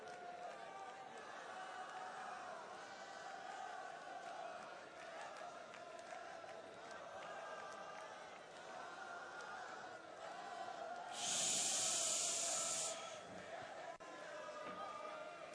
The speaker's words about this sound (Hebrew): אריה דרי מתקשה להמשיך בדבריו. נכון, שרים. שרים לכבודה של תורה